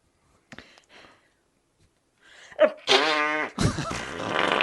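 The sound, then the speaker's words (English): A few faint taps, then a loud, buzzy fart sound effect with a wobbling pitch, running straight into a longer, rougher sputtering blast. No one speaks. “Well, I will accept it if you give me another fart bank.”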